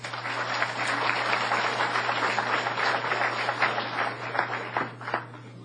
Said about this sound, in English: All right. Appreciate the enthusiasm and all the applause. It's definitely nice.